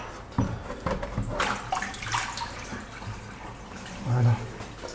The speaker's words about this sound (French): Donc là, on a une bonne bassine. Hein. Et on va aller vider l'eau de la bassine dans l'évier.